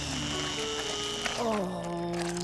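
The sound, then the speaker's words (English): A blender started without its lid on whirs steadily with a buzzing, mechanical hum, then its pitch slides lower about halfway through and keeps running at the deeper tone. “You always have to put the cover on a blender before starting it up.”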